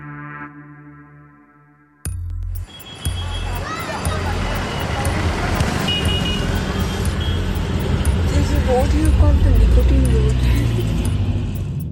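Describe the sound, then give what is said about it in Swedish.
A steady low rumble of road noise inside a moving car on the way to a tobacco field in Gujarat state, northwestern India, on a road called Nicotine Road, fills the scene after a brief tonal hum at the start, with faint chirps and street sounds above. “Vi sitter i bilen på väg till ett tobaksfält där vi ska träffa en tobaksbonde.”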